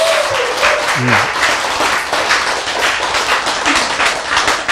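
An audience breaks into steady applause, a dense, even wash of many hands clapping that holds at full strength for several seconds, with a few brief voices surfacing underneath.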